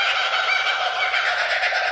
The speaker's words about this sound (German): Also klingt, als würden sie sich komplett beömmeln. Es ist tatsächlich, ein zweiter ist im Hintergrund, aber das Laute ist ein Vogel, der das macht. Hört sich an wie gackernde Affen. Mhm. Ist ein australischer Vogel